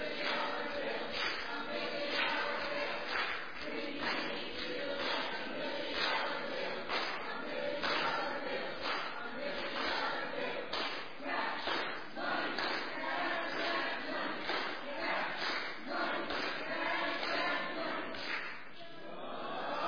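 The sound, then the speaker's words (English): The Green audience team gives its group cheer: many voices shouting together loudly and continuously for about twenty seconds, punctuated by regular sharp beats like rhythmic claps or stomps. “Green, come on up here and give us your cheer.”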